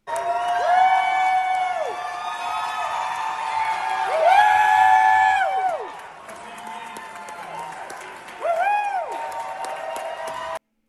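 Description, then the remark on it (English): A large crowd in the galleries of the Tennessee House erupts in raucous shouting and cheering as a reappointed state representative walks back onto the House floor raising a fist, with high whoops and yells rising and falling in overlapping waves, loud and continuous, swelling again near the end. “He walked back onto the House floor Monday, raising a fist to raucous shouts from crowds in the galleries.”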